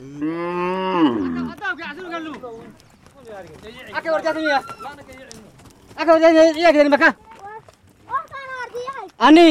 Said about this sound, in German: Inzwischen ist es später Nachmittag. Die Viehhalter kommen mit ihren Rindern, Schafen, Ziegen und Kamelen zum Kanal, lassen die Tiere trinken.